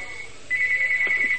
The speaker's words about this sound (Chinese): 现在麻烦了，两个电话一起响，但是台长只能接一个电话。